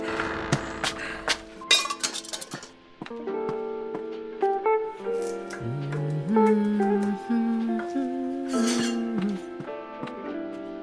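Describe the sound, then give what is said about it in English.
Dishes and glassware clink and clatter as the table is laid, a busy run of sharp knocks and ringing tones as pieces are set down one after another, with no one speaking. “Lay the table.”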